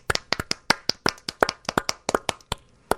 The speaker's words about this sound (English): Now there should be some applause.